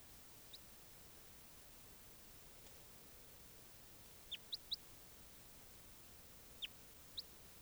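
Short, high bird chirps come in scattered bursts, a quick cluster of three near the middle and two more toward the end, faint and distant over a steady hiss of background noise.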